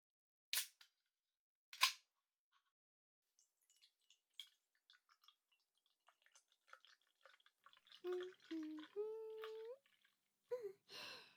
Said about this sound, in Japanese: そうと決まれば、こちらのグラスを使って、早速ビールをお注ぎしましょう。